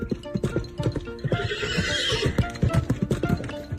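Rapid, rhythmic hoofbeats thunder close by, with a horse's high, wavering whinny rising over them midway through, like several horses galloping past at a race.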